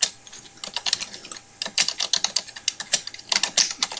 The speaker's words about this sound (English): Typing.